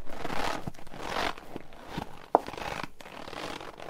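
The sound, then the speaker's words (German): Rhythmic crunching squeaks from squeezed potato flour, mimicking footsteps in snow, with a series of compressed crunches and one sharper crackle partway through, no talking. “Sind Schritte im Schnee, Kartoffelmehl.”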